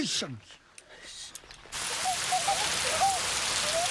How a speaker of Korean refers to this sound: 비는 주룩주룩 내리고 마을 사람들은 어느새 모두 처마 밑에 가 있습니다.